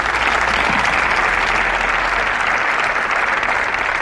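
An audience claps steadily, a dense, even wash of applause that stays loud and constant for about four seconds with no voices on top.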